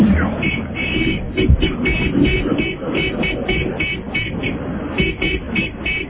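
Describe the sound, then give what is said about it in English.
Car horns honk again and again in short, rapid bursts over a steady rumble of traffic, moderately loud and continuing throughout. “That's his horn.”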